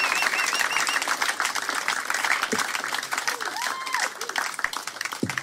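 Steady, dense audience applause for a security guard fills the whole stretch, a loud continuous patter of many hands clapping, with a few rising whistles and cheers mixed into the noise.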